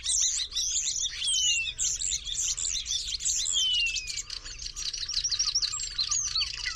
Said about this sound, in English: As starlings have the propensity to continue updating their song, they perfect it and polish it over their entire lifetimes.